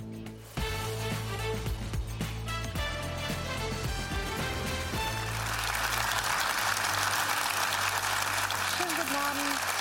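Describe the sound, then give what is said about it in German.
A TV talk-show studio audience breaks into steady, loud applause for guest Marie-Agnes Strack-Zimmermann, FDP lead candidate for the European election, a dense rush of clapping that swells midway and keeps going to the end, following a few seconds of tonal sound. “Der Applaus ist Ihrer.”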